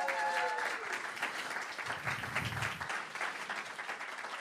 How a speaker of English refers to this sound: So I'd like you as a church to give them a round of applause, please. If you're at home, give them a round of applause. That's great.